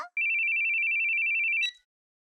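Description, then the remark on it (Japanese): A telephone rings with a single sustained, warbling electronic tone for about a second and a half, fairly loud, then cuts off with a short click. No one speaks. “なんでこのタイミングで電話？”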